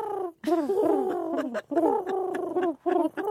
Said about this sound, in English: I could tell my pigeon had flown the coop when I could no longer hear it coo.